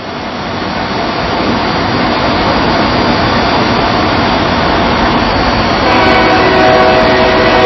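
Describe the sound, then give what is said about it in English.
A train rumbles past a ballpark during a baseball game between Burkburnett and the Enid Majors, a loud, steady roar that swells slightly over several seconds, with faint higher squeals and hiss riding over the low mechanical drone. “I don't know how they used to a train coming by during a baseball game they are, but the Enid Majors, you know they're used to it.”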